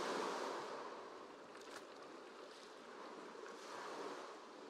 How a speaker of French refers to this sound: Vous reprenez votre marche en suivant le bord de l'eau. À chaque pas, vos pieds s'enfoncent un peu plus dans le sable humide. Et les petites vagues viennent baigner vos pieds et vos chevilles.